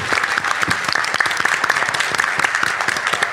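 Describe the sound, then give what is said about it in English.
Steady, dense applause from a sizable audience, many hands clapping at once in a continuous loud wash that holds evenly for a few seconds without anyone speaking over it. “Big round that. Of applause.”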